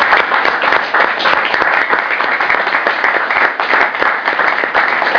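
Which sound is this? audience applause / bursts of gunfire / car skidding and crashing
audience applause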